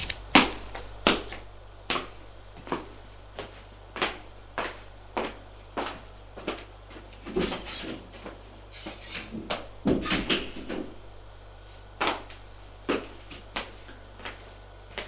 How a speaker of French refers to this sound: Va vers la chambre de sa femme. S'apprête à ouvrir la porte.